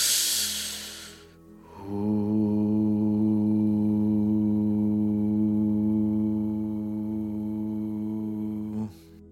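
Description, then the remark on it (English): A person sitting on a couch with eyes closed takes a short breathy inhale through the nose, then a single steady low hum sustains for about seven seconds, even, and fades out at the end of the extended exhale. “So I just sit on my couch, I close my eyes, and I spend the next 10 to 15, maybe 20 minutes breathing in through my nose and extending my exhales and humming on the way out.”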